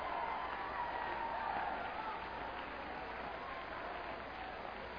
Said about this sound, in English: Well, why do you clap your hands? Well, the preacher said, I got to do it or I'm going to go to hell.